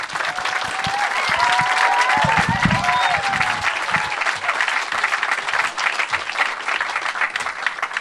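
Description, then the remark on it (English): A crowd claps steadily and loudly for about eight seconds, a dense wash of overlapping hand claps with a few cheers and whoops rising in the first few seconds, welcoming a marine biology professor to the stage to talk about the Solent Seascape Project. “Let's give her a massive round of applause as she comes to the stage.”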